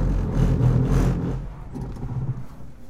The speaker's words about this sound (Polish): Jeszcze jedna próba po tym torze, który wciąż jest polewany wodą. Koła piszczą.